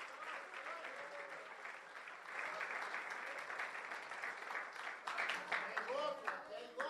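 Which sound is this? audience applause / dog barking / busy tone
audience applause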